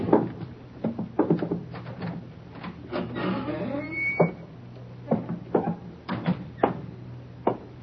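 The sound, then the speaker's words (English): A door being opened as someone enters, with a series of sharp clicks and knocks from the latch and handle, a brief scraping creak midway, then more scattered thuds as it swings. “Quiet, there's somebody coming. Get away from the door.”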